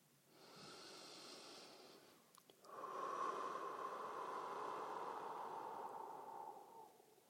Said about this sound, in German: Fangt immer mit ein paar tiefen Atemzügen an. Tief schnaufen, einschnaufen und ausschnaufen. In deinem Atemrhythmus.